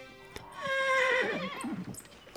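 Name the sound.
horse neighing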